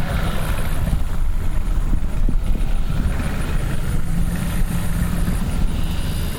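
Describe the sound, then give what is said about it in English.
A low, steady boat motor rumble idles for several seconds as Raymond Race's boat pulls up at a boat landing in Grand Bayou, a continuous engine drone with a faint higher whine above it and no voices. “I recognized Raymond Race as soon as his boat pulled up.”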